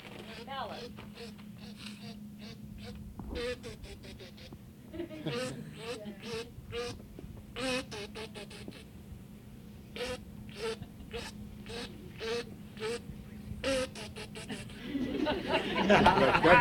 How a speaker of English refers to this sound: What kind of duck was that? Real duck.